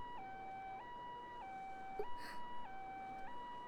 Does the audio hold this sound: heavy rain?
no